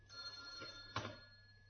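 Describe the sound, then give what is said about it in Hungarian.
A telephone rings with a steady, high electronic tone that holds for the whole short moment, fairly quiet, with a brief knock partway through and no voices. “Telefon!”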